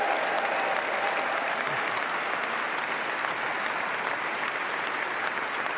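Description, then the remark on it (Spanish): A large crowd gives a standing ovation during a speech, a dense wash of clapping that stays loud and even for several seconds without any break or talking over it. “Minuto de aplausos. Minuto de aplausos.”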